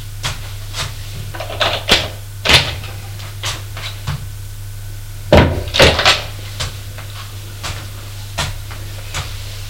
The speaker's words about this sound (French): Il ouvre la porte de droite qui donne dans la cuisine.